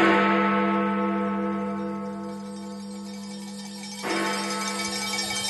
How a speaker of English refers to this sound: This morning in London, Big Ben rang out.